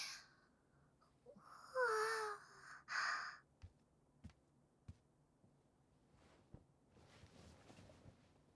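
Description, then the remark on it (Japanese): Two drawn-out, breathy yawns follow one another closely, the second caught from the first: the first longer with a voiced, sighing tone, the second shorter. Faint scattered taps and light shuffling follow. “まったく、人前でみっともないあくびさらして。私にまで映っちゃったじゃないの。”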